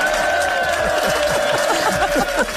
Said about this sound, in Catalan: I vull que feu un fort aplaudiment al president de la gestora.